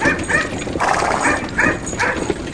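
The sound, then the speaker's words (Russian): A trained dog barks at the horses pulling a cart, repeatedly in a quick, steady rhythm, about six sharp yaps in a row, fairly loud, with no one talking. “Она умела править вожжами и лаяла на лошадей, когда те начинали дремать или сбивались с дороги.”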